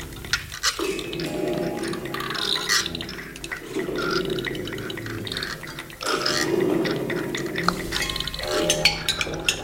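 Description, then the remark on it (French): A jaguar named Léo growls in a series of deep, rasping rumbles, each lasting a few seconds, with short breaks between them and no talking. “Avant de se quitter, vous entendez mes grognements?”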